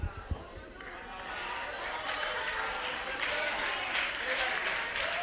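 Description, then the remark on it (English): After a brief quiet start, an audience in a church breaks into sustained applause, a dense, steady wash of many hands clapping together that carries on at full strength to the end. “Oh, no, no, I see y'all didn't clap over here.”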